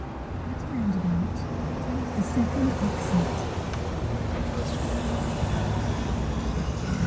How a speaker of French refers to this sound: C'est un après-midi d'automne. J'ai loué une voiture à l'aéroport de Vienne et je roule en direction de la frontière tchèque.